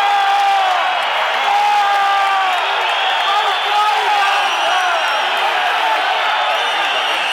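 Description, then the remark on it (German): A large stadium crowd at a football match roars in protest at the substitution of the team's number eleven, the captain: a dense, continuous wall of many voices shouting and jeering, loud and sustained without letup. “Da regen sich aber die Zuschauer auf, dass die Elfer ausgewechselt wird.”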